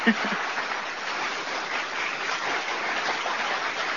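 A steady wash of clapping from a crowd, dense and even at moderate volume for several seconds, with a brief sharper burst right at the start.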